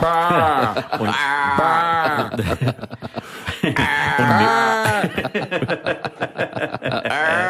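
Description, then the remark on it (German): Loud, wavering sheep bleats, one long quavering call after another, followed by choppy, rapid vocal bursts that resemble chuckling. “Wie viele Schafe hast du denn jetzt auf deinem Grundstück stehen?”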